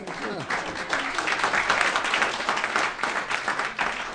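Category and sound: crowd, applause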